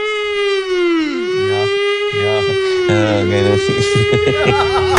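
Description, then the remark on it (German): A loud, sustained siren-like wail holds a steady pitch throughout, with voices chattering and talking over it. It sounds like a playful, vocal imitation of a fire alarm rather than a real siren. “exklusives Tonmaterial, wie der Feueralarm von Cristiano Ronaldo tönt”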